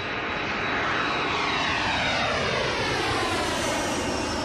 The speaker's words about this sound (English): Planes to accelerate down the runway at a much faster pace.